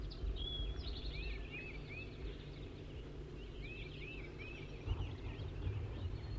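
wild male bird calling

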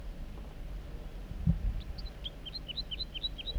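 wild male bird singing

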